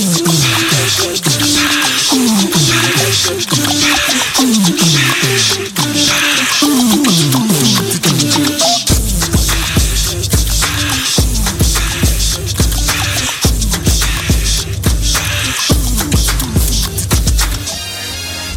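A music track plays loud and steady, with bright, rising melodic lines. Halfway through, a deep, pulsing bass beat kicks in and drives it to the end, with no voices.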